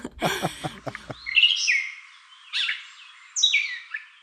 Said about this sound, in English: They have a lot of different sounds that they make. Part of their song includes mimicking other species' sounds, but they also invent things and make their own catbirdy sounds, which actually sounds like a cat, and they go meow.